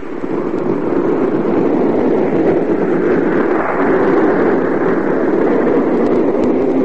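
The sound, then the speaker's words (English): A train pulls into a station, loud, a steady, dense mechanical roar that holds without a break for several seconds, with no voices. “Just as the train pulled up at the station, the detective arrived a few seconds too late.”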